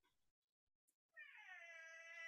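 A cat lets out a single long, loud, drawn-out meow, rising in pitch and holding steady for about a second, after a brief quiet moment with faint noise.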